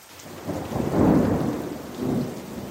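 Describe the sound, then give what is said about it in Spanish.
Heavy rain hisses steadily while two deep thunder rumbles swell and fade, the first peaking around a second in and a second, softer roll following, with no voices. “40 días y 40 noches llovía a cántaros.”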